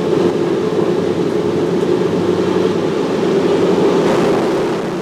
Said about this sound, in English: But the roar of a different plane's engines is making people around the Salt Lake Valley look up towards the sky.